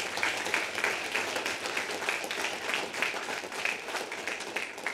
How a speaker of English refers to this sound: Church, can we just take a moment and thank God for what he's done in people's lives tonight? Just take a moment to clap for the Lord.